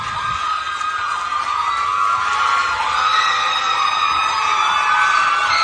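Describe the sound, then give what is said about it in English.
A large crowd of fans cheers and screams continuously at a live show, high-pitched shrieks and whoops blending into a steady, loud roar that swells slightly toward the end as a band walks onstage. “They're walking to the stage. They're coming out. Turns out they have some fans.”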